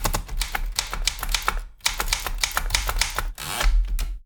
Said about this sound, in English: with a group of around 40 poets, and they rotate manning the typewriters at what are nearly weekly gigs, especially in the summer.